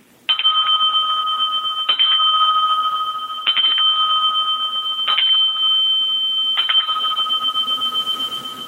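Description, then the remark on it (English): A small bell, dinged by actor Mark Margolis, is struck five times at a steady, unhurried pace. Each bright, clear ding rings on until the next one lands, fairly loud, with no voices. “Media, I'm going to have to ding my bell.”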